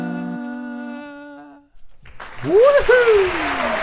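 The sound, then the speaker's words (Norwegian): A sustained musical chord ends, and after a brief pause a burst of loud applause breaks out, with a high rising-and-falling whoop of cheering riding over the clapping. “Applaus der for vår høye wow.”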